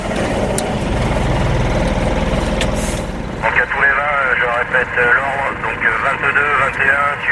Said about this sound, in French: Au petit matin, le convoi s'engage sur la route nationale 16.